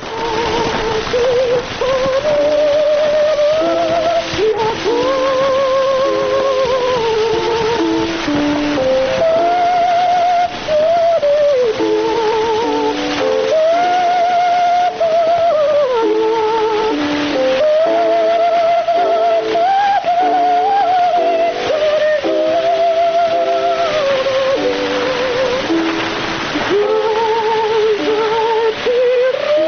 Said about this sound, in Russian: Из «Пиковой дамы» поет Медея Фигнер, ария Лизы из оперы «Пиковая дама». Вот такой мог услышать эту музыку Матисс в 1911 году.